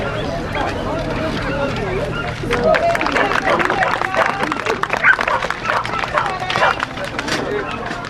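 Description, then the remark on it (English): At a dog show's group judging, handlers run their dogs around the ring for the judges before lining up, their running footsteps and paws pattering under a steady crowd murmur and scattered applause that swells louder after the first couple of seconds. “Well, at this point, the judges are asking us to come in, running us around, and then line up behind, you know, the dog in front.”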